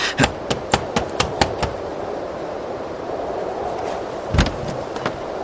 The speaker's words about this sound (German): Und nun klopfen.